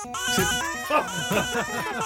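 A father's recreation of a rock song from his baby's babbling and squealing, 21 notes chopped and pitched into a melody with a sneeze used on the drums, over a rock backing track, with bright wavering vocal tones stacked up in a busy, loud mix.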